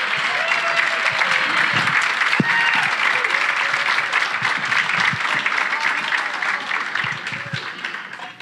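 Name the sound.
standing ovation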